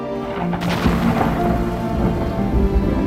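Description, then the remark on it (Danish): A thunderstorm rumbles, deep rolling thunder layered over steady rain that patters continuously throughout, with no voices present. “Og jeg ligger bare og kigger ud på det her tordenvejr og lytter til det”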